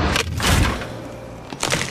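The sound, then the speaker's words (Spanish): The brittle chocolate shell of a new Magnum ice cream tub (Praliné or Frambuesa) cracks and crunches, a few sharp snapping bursts separated by brief pauses, with no voices present. “Cuidadosamente creadas para romperse. Nuevas tarrinas Magnum Praliné y Magnum Frambuesa.”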